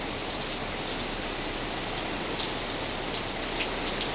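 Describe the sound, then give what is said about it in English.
A single cricket clinging to a huge red pillar under the Rashomon gate chirps in short, regular bursts while steady rain patters in a broad hiss underneath. No voices. “Evening, and a lowly servant sat beneath the Rashomon, waiting for the rain to end. Under the broad gate, there was no one else, just a single cricket clinging to a huge red pillar from which the lacquer was peeling here and there.”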